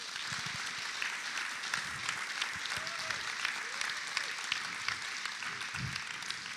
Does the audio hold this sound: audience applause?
yes